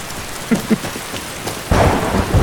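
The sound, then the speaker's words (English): Steady rain hisses throughout, with a couple of soft thumps early on, then a loud rumble of thunder rolls in near the end and swells over the downpour, during a thunderstorm up on a mountain in the game Skyrim. No voices. “Ooh, do you think there's a danger of getting hit by lightning up on this mountain?”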